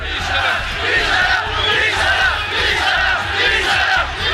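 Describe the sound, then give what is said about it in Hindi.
A large crowd of people protesting oil prices in the streets of Iran chants and shouts together in loud, sustained waves of many voices, rising and falling in rhythm, with a steady low rumble underneath and no single voice standing out. “Iran में तेल के दामों के खिलाफ लोग सड़कों पर उतरे।”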